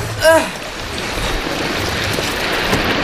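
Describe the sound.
Steady rushing, splashing water noise from choppy waves around an inflatable boat, fairly loud throughout, with a brief shout-like voice near the start.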